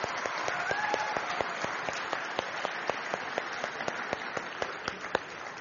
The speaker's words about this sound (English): Can we give our teens a round of applause?